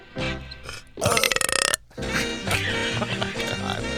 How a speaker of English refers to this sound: why did you belch into the microphone? Yeah, what's that all about?